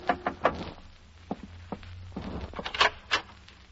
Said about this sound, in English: I was in my hotel room packing when a knock on the door changed my mind again.